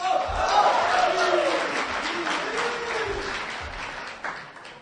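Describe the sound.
A xiangsheng (crosstalk) audience applauds and cheers steadily, dense clapping forming a broad wash of noise while scattered voices shout and whoop over it, holding at a fairly loud, even level for several seconds.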